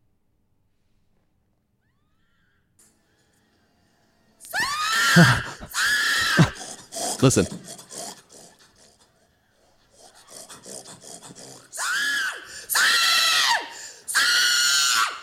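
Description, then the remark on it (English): A woman lets out loud, shrill hog-calling squeals and hollers, a rapid cluster of cries followed after a pause by three more drawn-out, piercing calls, with a brief spoken word at the start. “Woman pig calling. That should be good.”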